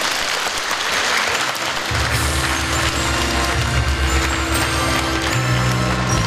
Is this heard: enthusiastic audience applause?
yes